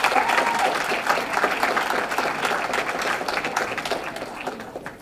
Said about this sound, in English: once again, give yourself another round of applause.